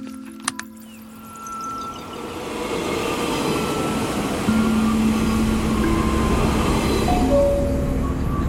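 train running

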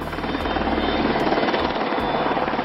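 helicopter rotor overhead

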